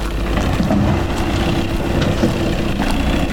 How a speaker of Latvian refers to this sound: Pustošs skats paveras arī Altenāras pilsētiņā. Tur Āres upes krastā uzkalnās lejas neliela balta baznīca. Ap to tuvāk upei daudz ekskavātoru un kravas mašīnu.